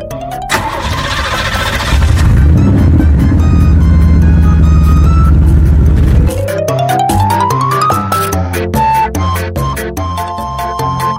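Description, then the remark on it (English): A bus engine cranks and roars to life, rumbling loudly for a few seconds before giving way to an upbeat musical passage; no one speaks. “And rushed everyone onto the bus.”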